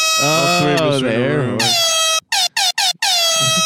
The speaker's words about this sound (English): He's going to do the beep.